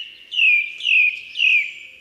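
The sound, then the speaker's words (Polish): A song thrush sings three matching fluty, whistled phrases in quick succession, each sliding downward, mimicking a blackbird's mellow whistles. Clear, with no other sounds. “Czasem śpiewak wręcz naśladuje fletowe gwizdy kosa.”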